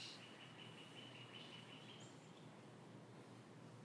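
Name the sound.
birds singing outdoors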